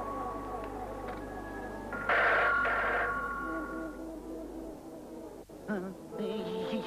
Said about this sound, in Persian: چی شنیدی؟ انگار صدای تلفن ما بود.